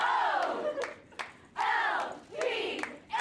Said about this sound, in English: Next, a community event at a high school in Chicago. Girls cheer in a circle.